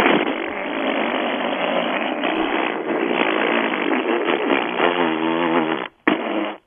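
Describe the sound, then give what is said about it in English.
A long, loud, rumbling fart noise from a caller on the radio station 97.1 Free FM, sustained for several seconds, buzzing and sputtering with a wavering tone near the end before a brief pause and final burst. “That's quite a fart.”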